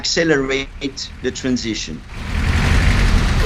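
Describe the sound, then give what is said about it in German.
A voice talks for a couple of seconds, then a steady, dense roar of street traffic in the capital city Praia takes over, with continuous engine and tire noise at moderate loudness. “Doch noch sind E-Autos die Ausnahme im dichten Verkehr der Hauptstadt Praia und auch auf dem Land dominieren noch die Verbrenner.”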